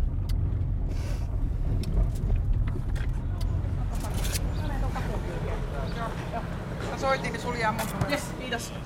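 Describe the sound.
A car carrying food drives along to Kaisaniemi with a steady, low engine and road rumble throughout, and faint voices murmur beneath the noise toward the end.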